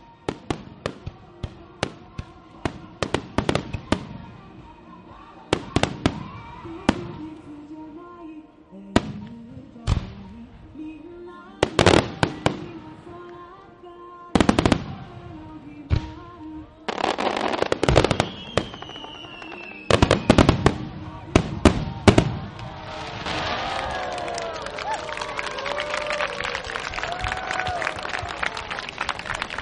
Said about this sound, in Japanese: 花火最後のコールをさせていただきたいと思います。ナンバー16フィナーレスターマイン 大山の地酒出羽鶴仮穂大和しずくです。